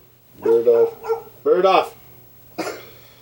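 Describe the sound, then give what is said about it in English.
A thrilled dog waiting to be let in through a door barks in several quick, excited bursts, high-pitched and yelping, with short pauses between them over a low steady background hum. “Open up the door. Let the dog in. He's all fucking thrilled.”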